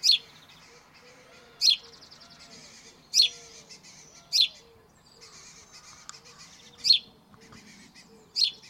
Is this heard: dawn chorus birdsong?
yes